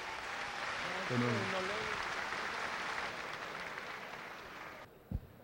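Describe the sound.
A crowd at the Consejo Comunitario in Urrao, Colombia, applauds the security forces' rescue of a man in a steady, dense wash of clapping that lasts about five seconds, with a few voices calling out early on, then cuts off abruptly, followed by a single low thump.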